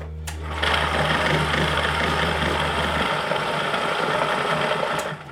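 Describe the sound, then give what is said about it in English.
A Risograph stencil printer at Bernal Books in Normal Heights runs with a steady mechanical whir and rapid clatter, a low hum underneath that cuts out about halfway while the rhythmic feeding noise continues, then stops abruptly near the end. “He's using a Rizzograph printer, an updated version of what was dropped off at Jan Dirk's”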